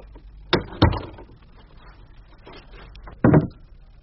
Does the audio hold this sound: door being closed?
yes